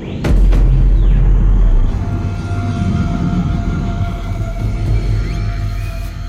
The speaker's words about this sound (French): Un avion passe.